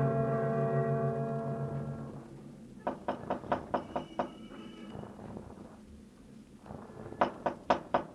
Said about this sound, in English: Why the knock, Gino? Other times you just... Other times, other moods with other etiquettes of entry.